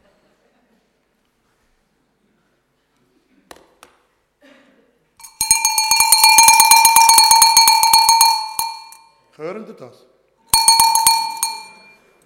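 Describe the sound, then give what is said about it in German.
Small bells on the bottom of a high priest's robe jingle rapidly in a sustained bright shimmer for a few seconds, pause briefly, then ring again in a shorter burst, with a person's voice speaking before and between the ringing. “Er hat Glöckli! Genau. Und was macht das Glöckli? Bim Bam! Oder Läuten.”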